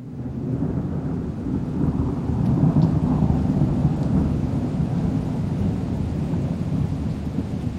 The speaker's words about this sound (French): Le 11 novembre, il savoure avec un plaisir immense la pluie tropicale qui s'abat sur lui. Elle le rince et le débarrasse du sel qui recouvre sa peau.